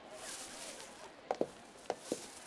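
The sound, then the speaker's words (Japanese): Footsteps of two people walking together click in an uneven rhythm over a constant crinkly rustle of a heavy plastic shopping bag carried back from a grocery run, with no talking. “俺たちの足音とビニール袋の擦れる音が重なる。”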